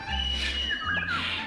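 Birds call with thin, high chirps and quick whistled sweeps over a steady low hum, the calls overlapping for a moment.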